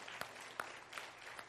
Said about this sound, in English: Good to have … with us. And give them a round of applause, if you would, for being here.